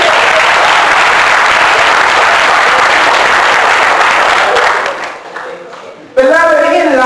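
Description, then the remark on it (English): A crowd at a revival at Faith Baptist gives God a hand clap, clapping loudly and steadily for about five seconds, a dense wash of applause that fades out. After a brief pause, a voice begins speaking. “And if you believe it, won't you give God a hand clap?”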